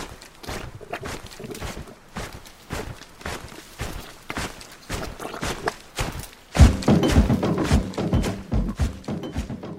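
A steady, rhythmic loop of heavy stomping footsteps, like a crowd marching through thick mud, with dull thuds repeating about twice a second and growing louder and denser near the end.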